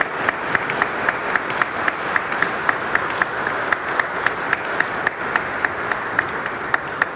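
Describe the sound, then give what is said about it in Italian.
An audience applauds Monsignor Stanislav Zvolenský steadily for several seconds, a dense wash of many hands clapping at an even level, with a few sharper claps standing out in a regular rhythm. “Facciamogli un grande applauso per tutto quello che ha fatto e che fa.”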